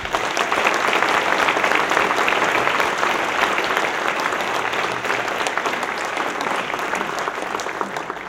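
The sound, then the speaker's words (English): Sustained audience applause for the events manager at a weekend party, a dense steady wash of many hands clapping at full volume for about eight seconds, tapering only slightly toward the end, with no voices standing out. “Events manager Beth Kunz, among many others, worked tirelessly to put this together, and I'd like a round of applause for Beth.”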